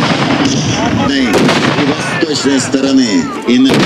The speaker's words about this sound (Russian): Солдаты, казаки и ополченцы занимают боевые позиции. Выстрелы из ружей, артиллерийские залпы. Набережную мгновенно заволакивает дымом.